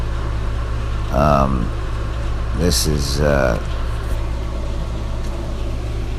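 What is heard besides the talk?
air conditioner running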